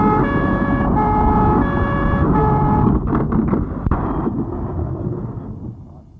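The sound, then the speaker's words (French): A loud siren of arriving police and firefighters alternates between two pitches for a few seconds, then gives way to heavy engine rumble and road noise that slowly fades. “Il entend la police. Les pompiers arrivés.”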